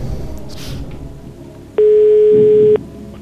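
A single loud, steady ringback tone of an outgoing phone call made on the Swedish TV quiz show Postkodmiljonären sounds for about a second over low background noise, with no one speaking.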